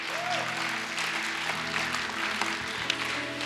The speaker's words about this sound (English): Dancers, as you dance, you know, you dance so nice. They actually dance very nice this morning. Did you clap for them? Clap for them again.